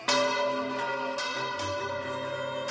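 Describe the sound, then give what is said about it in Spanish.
Church bells ring out loudly in a quick series of strikes, each clang blending into long, shimmering overtones that hang in the air, with no voices present; the bells strike 12 noon in Valencia as the Real Senyera flag is lowered from the City Hall balcony during the civic procession. “Sonaban las campanadas de las 12 del mediodía y descendía la Real Señera desde el balcón del Ayuntamiento de Valencia, sin inclinarse, mirando al frente,”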